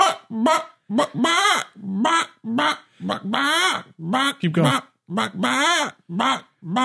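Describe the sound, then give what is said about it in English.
A person imitates a chicken, letting out about a dozen short, loud squawking clucks in a steady, choppy rhythm, with a few brief spoken words mixed in. “No, you gotta keep going with the chicken.”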